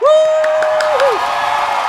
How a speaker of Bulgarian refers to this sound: Моля за вашите аплодисменти за моята невероятна, красива, прекрасна съпруга